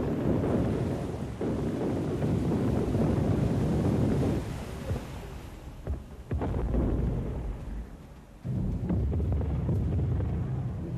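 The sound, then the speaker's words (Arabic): Loud, gusting wind roars over churning sea, a dense low rumble with buffeting surges that briefly dip and swell again, no voices present. “أطلقوا المدافع على سفنهم حتى تشاركوا العاصفة في هزيمتهم”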